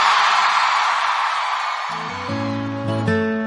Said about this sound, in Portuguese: Quem gostou, joga a mão e dá um grito, Salvador.